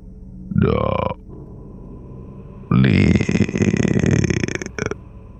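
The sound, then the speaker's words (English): A low, distorted voice, garbled like a record skipping, blares over a mall's PA system in two loud bursts: a short warbling one, then a longer, harsh, crackling stretch with no clear words, ending in a brief sputter. “I turn toward the door, and then the PA system crackles to life. A low, distorted voice, garbled like a record skipping over itself.”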